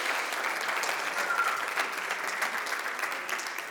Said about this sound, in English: A round of applause to the Lord. Yes. And then a round of applause to our band that's leading us in worship today.